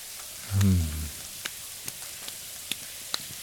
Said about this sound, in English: Here, let me move you more under the spray of the shower. Is that better? Are you warmer?